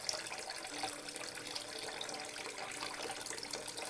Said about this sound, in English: Begin by diluting the cream with a bit of water. This will allow for more surface area to build up around your face.